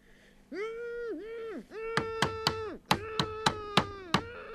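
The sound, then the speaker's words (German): Someone knocks: sharp knocks rap out in two bursts, three then five, fairly loud, over a drawn-out, wavering voice-like tone that rises and falls beneath them. “Ja, ja, da hat doch jemand geklopft.”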